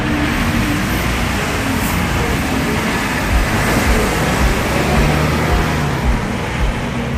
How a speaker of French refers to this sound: C'est un véritable fléau qui pollue en plein cœur de la Méditerranée. L'île de Malte est saturée de voitures. Désormais, 20% des ménages possèdent plus de 3 véhicules.